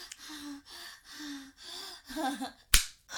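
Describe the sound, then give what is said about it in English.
A single sharp, loud slap on skin, a slap to the vulva, lands near the end, preceded by a series of soft breathy gasps and murmured vocal sounds. “I did want those pussy slaps.”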